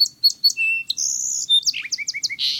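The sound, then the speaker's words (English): A song sparrow, hopping out of a low thicket, sings, starting with a few crisp introductory notes, then a buzzy trill and a quick run of descending, slurred phrases, with no talking. “Next, a song sparrow hops out of a low thicket and adds its music to the medley.”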